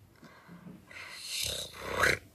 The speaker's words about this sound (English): And then they heard some growls.